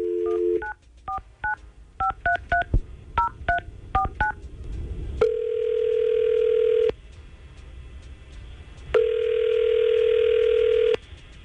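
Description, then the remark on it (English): A quick run of touch-tone dialing beeps, followed by two long steady ringback tones on an outgoing call placed by Tampa Bay's morning crew at radio station 99.5 QYK, separated by a pause. No one speaks. “But we're going to try to get her on the phone right now and see what's going on with”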